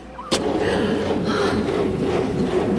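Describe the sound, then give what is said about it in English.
A sharp bang is followed by a continuous churning, grinding rumble as a car engine cranks over and over without catching, steady and fairly loud with no voices. The car won't start, and its battery is thought to be dead. “I think the batter's dead.”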